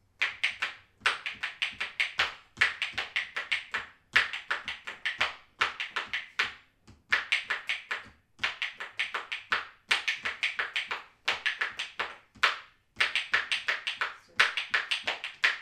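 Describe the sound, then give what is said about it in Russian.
Spoons played as percussion: quick bursts of bright, clattering clicks in a steady rhythmic pattern, each flurry separated by brief pauses, lasting throughout with no talking. “она у нас и на маракасах играет, на треугольничке, и вот на ложках сегодня тоже вам исполнит.”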